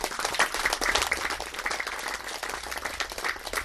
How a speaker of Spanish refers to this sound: ese compañero que ya no está con nosotros, Adán Ramírez Merino, integrante del COPUDEVE, que nosotros lo recordamos y siempre le decíamos el alto comisionado, porque él aprendió muchas cosas, y desde aquí un aplauso al alto comisionado.